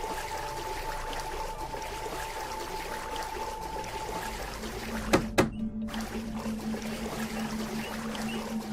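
Steady water splashing and sloshing, like someone swimming, continues throughout at moderate loudness, with a couple of sharper splashy knocks near the middle and a faint sustained tone underneath. No one speaks.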